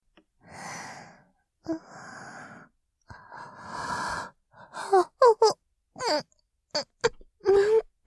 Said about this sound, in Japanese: 申し訳ありません。お客様の前であくびをしてしまうなんて、私の方こそ、すっかりリラックスしてしまったみたいです。